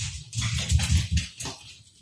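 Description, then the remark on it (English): A dog making noise: a rapid run of low, rough vocal bursts over about two seconds, fairly loud and unsteady, with no one speaking. “Sorry, my dog was making quite a lot of noise.”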